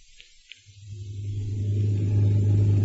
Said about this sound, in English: Hey, look down the street. Holy smoke. That's Zaza's new car. She's driving Gail home.